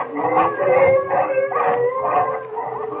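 A pack of about 50 hungry wolves, spreading out and circling, howls together in a loud, overlapping chorus of long, wavering cries that rise and fall continuously for a few seconds, with no talking.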